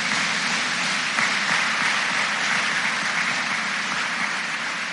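Sustained applause from a large crowd for the choir at the Fort Recovery commencement at the Fortside Fieldhouse, a dense steady wash of clapping that holds at an even, fairly loud level for the whole stretch with no voices standing out.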